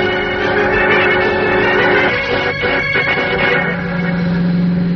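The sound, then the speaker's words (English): A car drives steadily along the main highway, its engine giving a continuous droning hum with tonal whine and road rumble, loud and unbroken for the whole stretch. “Driving on the main highway, that's not safe, Mr.”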